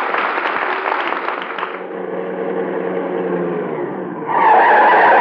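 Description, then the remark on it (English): A car skids with a long, loud screech of tires and brakes, the harsh squeal shifting pitch before a final sharper burst as it stops. No voices are heard. “Get them brakes fixed.”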